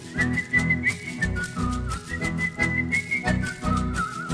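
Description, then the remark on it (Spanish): A person whistles a song's melody in place of singing its words, in a steady, high-pitched line with small slides between notes, carried over a loud, rhythmic instrumental backing with a pulsing low end. No one sings or speaks. “Clodomiro por vergüenza la estrategia transformó y en vez de la cancioncita solo la música chifló.”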